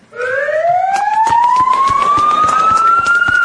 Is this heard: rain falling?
no